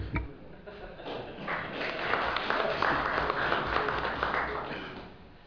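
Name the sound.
applause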